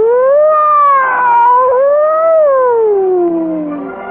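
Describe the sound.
A voice imitates a siren, holding one loud, continuous wail for about four seconds. The pitch rises and falls twice, then slides steadily downward as it fades out. No other sounds.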